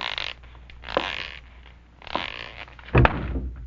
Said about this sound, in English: Boy, did that ever hurt. No wonder you bumped into the door. There's no room to squeeze by.